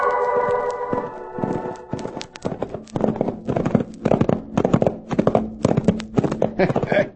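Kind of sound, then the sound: animal, horses' hooves clip-clopping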